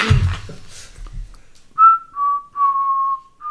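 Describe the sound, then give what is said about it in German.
A person whistles the children's song "Hänschen klein", four clear, steady notes around the same mid-high pitch, each held briefly, following a moment of low rustling and murmuring. “Hänschen klein.”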